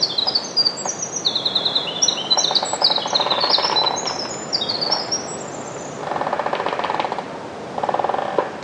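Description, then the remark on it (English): A winter wren pours out a long, rapid song of high, tumbling notes over dry, rhythmic creaking and knocking of trees in a mixed forest at Till's Point in Penobscot, Maine. After the song stops, bursts of buzzy creaking carry on alone. “Here, a winter wren accompanies this variety of percussive sounds.”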